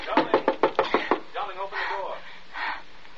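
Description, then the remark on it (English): About seven loud, evenly spaced thumps of someone pounding on a door, followed by a man's raised, shouting voice. “How he does pound and shout.”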